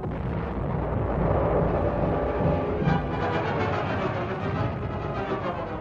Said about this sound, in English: H hour. Guns of the fleet opened up and the invasion of southern France began.